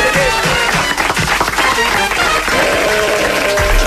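Loud, steady applause from a large crowd closing the Catalan segment Cabralú Cabralunya Informació fills the whole stretch, a dense wash of clapping with some cheering voices mixed in and no pause or letup.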